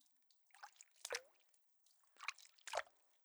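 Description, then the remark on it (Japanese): Wet squelching of soapy lather being scrubbed around a belly, in two short bursts separated by a brief pause, with soft bubbly crackles and no voices. “お腹の周りを泡が広がるようにゴシゴシ、ゴシゴシ、ゴシゴシ、ゴシゴシ、ゴシゴシ。”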